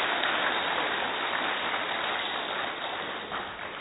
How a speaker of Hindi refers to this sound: अपने लिए ताली बजाने में थोड़ा सोच रहे हैं, अच्छे से बजाएंगे।